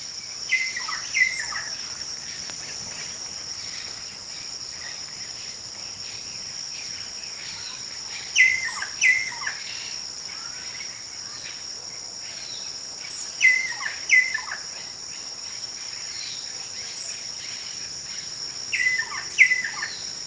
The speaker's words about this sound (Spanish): Escucha esos pájaros. Hay un montón de pájaros en esta casa.